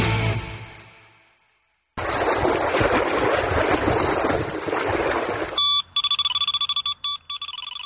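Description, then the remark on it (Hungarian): Steady rush of lapping water at Lake Balaton, then a boilie fishing bite alarm starts beeping: a rapid run of short, high electronic tones that grow quicker and choppier toward the end. “Ez a Balaton, kedves hallgatóink, és a Bojlis kapás jelző hangja.”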